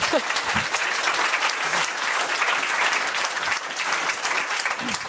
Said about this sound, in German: Ich würde sagen, das ist ein Applaus wert